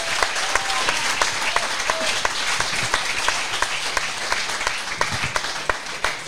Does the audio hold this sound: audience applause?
yes